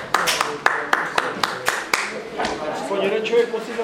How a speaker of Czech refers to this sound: Jeden člověk musí zatleskat, ne? Máme demokracii. Já se divím, že tleskáte.